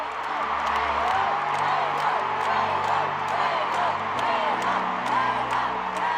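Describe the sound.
A huge concert crowd chants and cheers in a dense, continuous roar, thousands of voices blending together with whoops rising above the steady wash of sound.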